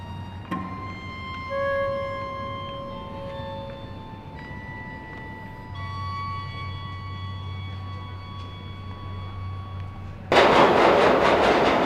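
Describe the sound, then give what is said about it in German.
A subway train in Tokyo rumbles along with a steady low drone, sustained whining tones and clanks, ending in a loud burst of rushing hiss as the car roars or brakes near the end. “Eine U-Bahn-Fahrt auf eigene Faust mag eine gewisse Herausforderung sein.”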